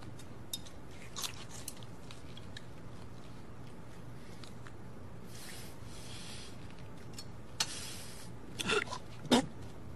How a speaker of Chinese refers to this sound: 这个辣椒干嚼的不咽了，都含在嘴里，那不是更辣吗？